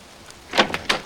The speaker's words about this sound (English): Finally, he rises and moves across the room to open the door.